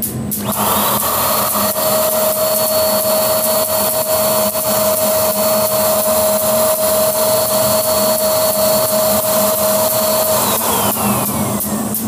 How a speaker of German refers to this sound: Man hört hier die Kurzschlüsse. Bei jedem Klick, Klick, Klick, Klick